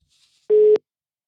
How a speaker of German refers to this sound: Und da wollen wir doch einfach mal schauen, wenn es jetzt, und da klingelt's.